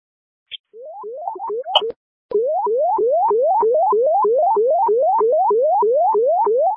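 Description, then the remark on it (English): Fire dispatch alert tones toning out Crystal Lake Fire Department Station 1, 100 West Woodstock Street, for a walk-in back pain call: a short high beep and a few stuttering rising chirps, then a loud, steady run of rapid electronic whoops, each sweeping upward in pitch, repeating about three times a second. “Do you need tones? I go ahead and tone it out.”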